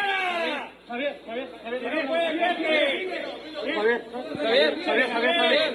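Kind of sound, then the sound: crowd, crowd shouting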